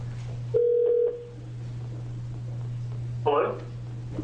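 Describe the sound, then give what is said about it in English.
A telephone call placed to a witness for a public hearing on House Bill 2931: a steady low line hum, a short burst of single-pitch dialing tones, then a brief ring-like chirp near the end, moderately loud with no one speaking. “Okay, we'll get him on the phone first.”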